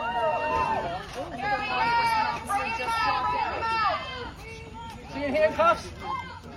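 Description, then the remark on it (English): A crowd gathered outside Brian Laundrie's house, many voices talking and calling over one another in a continuous, moderately loud babble, with a few raised shouts rising above the din. “Wow, okay, so this is like a crowd of people outside of Brian Laundrie's house.”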